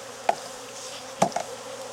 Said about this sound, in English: Good looking number of bees down here.